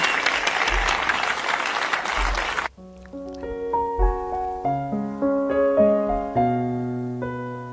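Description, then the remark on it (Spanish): Dense, steady audience applause for a performer for a few seconds, then it cuts off and a pianist begins playing a slow, sustained melody with clear notes and chords. “Un aplauso”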